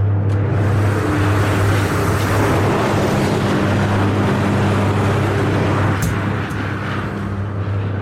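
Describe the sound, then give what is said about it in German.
An electric arc furnace roars as its arc burns freely in the air on scrap, jumping erratically to the next piece of scrap: a loud, unbroken crackling rush over a deep, steady electrical hum, with no voices throughout. “Der Lichtbogen brennt jetzt frei in der Luft, das sieht in etwa so aus.”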